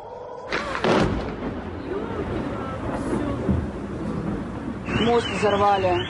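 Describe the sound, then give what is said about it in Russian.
Rumbling, windy noise with voices talking as a building in the Rosneft area is struck and explodes, then in the last second or so a loud air raid siren starts wailing, its pitch sweeping up and down in waves. “Сирена, слышь, заорал.”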